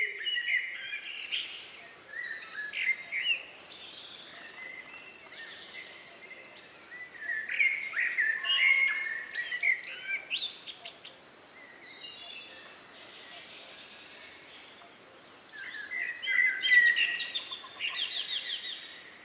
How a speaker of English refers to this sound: The singing of birds leaving space to the rhythm of rain.